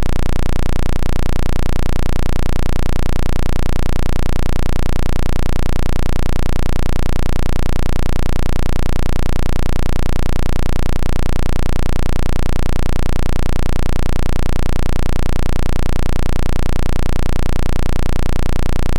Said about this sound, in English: Square wave. It's a really annoying sound, but it just kind of cuts through the attack energy, and we immediately feel relief. For a quick analysis of the sound, we're going to play the square wave right now.